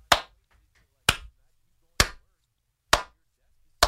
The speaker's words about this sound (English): Just had to clap for that